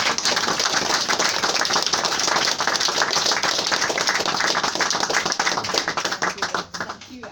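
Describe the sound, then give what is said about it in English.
A room full of people applauding to thank a speaker after a talk, steady dense clapping that holds strong for several seconds and then thins out and fades toward the end. “But please join me once again in thanking”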